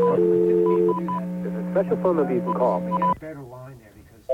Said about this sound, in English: There's a special phone number you can call to hear the USB signal. Now, here it is.